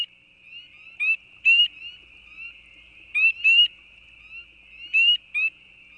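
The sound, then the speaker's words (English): Spring peeper frogs (Pseudacris crucifer) calling: loud, piercing, bird-like rising peeps come in close pairs every couple of seconds over a steady, shrill chorus of more peepers. “But, you know, they're one of the most common frogs in the east, northeast, and have a really piercing bird-like whistle or peep.”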